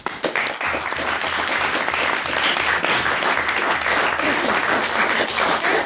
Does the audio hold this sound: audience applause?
yes